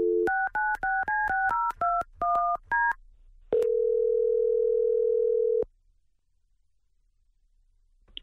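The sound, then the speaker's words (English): A quick run of about ten telephone keypad beeps, clear, followed by a steady two-second phone tone that cuts off into near silence. “Hey, hang up. Call her right back.”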